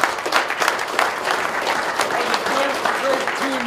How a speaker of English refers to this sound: Congratulations. Congratulations. Give yourself a big applause.